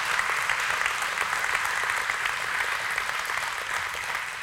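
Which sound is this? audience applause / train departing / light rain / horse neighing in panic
audience applause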